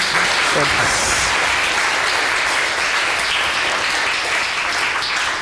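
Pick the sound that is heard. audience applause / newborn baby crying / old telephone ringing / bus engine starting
audience applause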